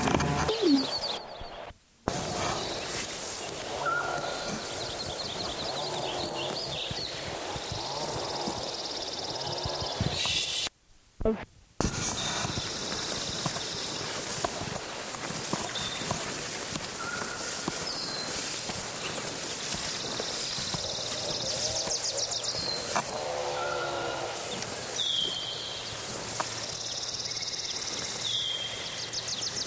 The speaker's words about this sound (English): This is a second Lincoln Sparrow from yesterday singing again.